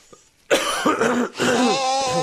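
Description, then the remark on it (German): Two long, loud nose blows during a radio broadcast follow a brief quiet moment, each a forceful, honking rush of air with a buzzing, slightly nasal tone, separated by a quick pause. “Ich muss schon wieder die Nase, das ist mir so unangenehm, im Radio Nase schneuzen, ich muss schon wieder.”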